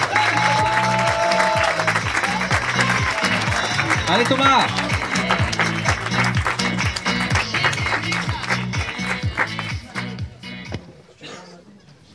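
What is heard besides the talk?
audience applause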